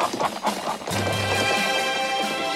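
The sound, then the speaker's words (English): Horse hooves clip-clop in a quick, uneven rhythm, followed by a short neigh. The sounds are clear, with no talking. “Hey, turn your horse radio on.”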